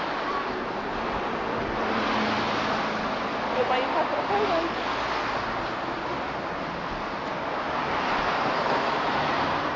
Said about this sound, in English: It's too noisy, all these cars, isn't it?